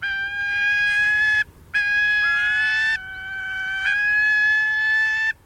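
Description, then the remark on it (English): A gyrfalcon calls in long, loud, sustained wailing notes, one held cry, a brief pause, then a longer drawn-out cry that shifts pitch slightly partway through. No one speaks. “Gyrfalcons are majestic birds.”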